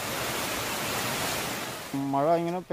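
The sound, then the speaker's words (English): A dense, steady, loud roar of heavy rain and rushing floodwater in the Indian state of Kerala, before a voice briefly cuts in near the end over the continuing water noise. “Entire hillsides appearing to melt under heavy rain.”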